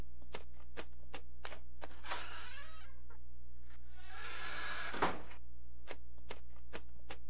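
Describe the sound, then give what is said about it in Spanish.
A door is opened with two rattling, scraping bursts of handle and latch noise ending in a sharp clack, while a steady series of soft ticking taps continues throughout. No one speaks. “Abro la puerta y no hay nadie.”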